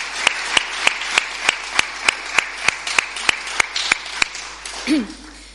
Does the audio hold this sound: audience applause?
yes